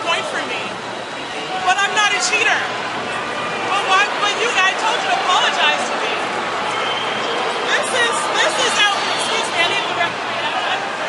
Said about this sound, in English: It was hard to hear over the crowd, but Carlos Ramos said game penalty.